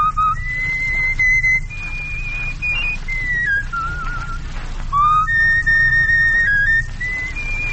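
A man whistles a slow, sustained melody alone, clear and close, with long held notes gliding between pitches over a faint low hum.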